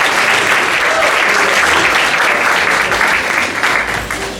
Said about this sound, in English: A huge round of applause for Princess Squid.